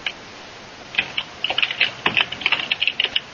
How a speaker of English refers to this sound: And we have the typing of keys.